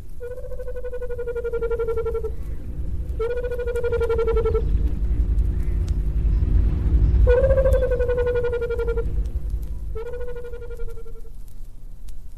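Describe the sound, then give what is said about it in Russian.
A white-browed cuckoo calls four times, each call a long, slightly falling, hollow whistled note, evenly spaced about three seconds apart and loud against a steady low rumbling background. “Кукушка белобровая.”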